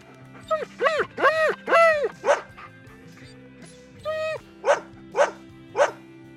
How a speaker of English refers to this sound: Oh no, my dress. Go away, silly dog.